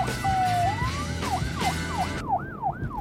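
An emergency vehicle siren rises in a long wail, then switches to quick repeating whoops, loud over a low rumble of traffic, as the vehicle passes by, with no one speaking.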